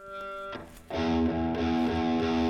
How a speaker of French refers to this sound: Vous voyez, une petite, on va dire une distorsion relativement légère, quoique ce Marshall, très vite, il crunch très vite.